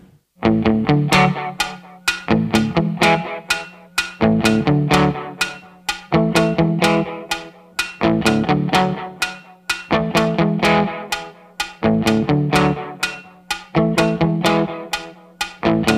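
A rock band plays an instrumental intro: a loud, distorted electric guitar riff repeats over driving drums in a steady, punchy rhythm, with no singing yet.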